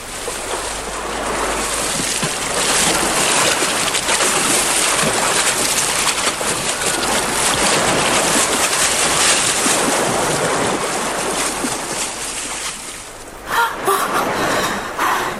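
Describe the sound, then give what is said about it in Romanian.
A steady, continuous wash of calm sea water with a breezy, airy hiss, holding an even level throughout with only a brief dip and flutter near the end. No one speaks. “Ce liniștită e marea.”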